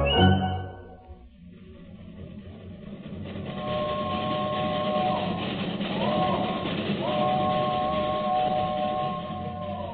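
A train rolls past a shelter near the track with a steady, heavy rumble that swells after a short lull, while high metallic squealing tones slide up and down over the noise. No voices.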